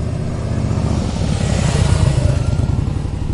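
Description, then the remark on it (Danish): The engine of an early motorcycle, the Daimler Reitwagen by Gottlieb Daimler and Wilhelm Maybach, a single-track motorized vehicle regarded as the first motorcycle, runs steadily with a rough, throbbing low rumble, swelling into a brief rev midway before settling back. No voices. “Det var en etsporet motoriseret køretøj, der inden for historievidenskaben nok betragtes som den første motorcykel.”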